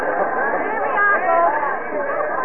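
A dense murmur of many overlapping voices of a crowd at an auction, holding steady and fairly loud throughout with no single voice standing out.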